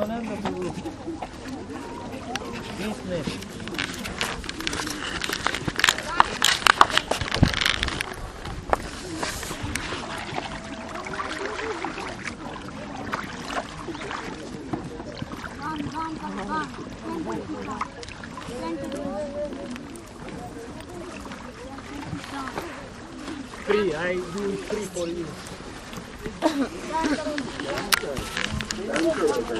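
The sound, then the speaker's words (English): Water is poured and splashed over people's heads in repeated bursts during an offering at a temple, over a steady wash of outdoor noise, with people talking in the background throughout. “And someone give me some water on my head.”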